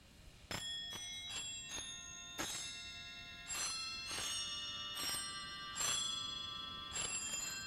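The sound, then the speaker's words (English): Bells of a five-manual Wurlitzer theater organ, in a home room built as a small movie palace, play a slow melody, each struck note ringing out with long, shimmering overtones that overlap the next. About nine strikes at an unhurried, uneven pace, clear, with no talking. “And he's about to demonstrate the bells purchased 40 years ago that are at last hooked up and ready to play.”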